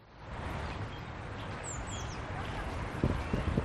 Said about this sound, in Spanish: con el rumor un poco lejano en este caso del tráfico en Madrid, pero es difícil alejarse del tráfico en Madrid, pero también con el sonido de los pájaros. No sé si puedes escucharlos como yo los escucho en este momento.